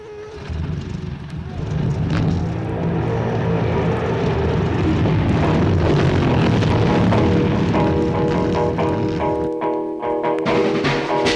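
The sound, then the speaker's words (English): Several race car engines roar to life together, a loud, dense rumble that swells and holds, with revving pitches rising and shifting near the end. “Start your engines.”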